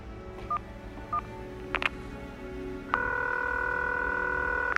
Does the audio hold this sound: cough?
no